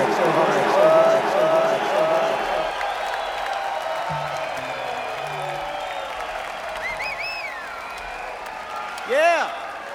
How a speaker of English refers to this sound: So let's give a really big round of applause to our crew for working so hard.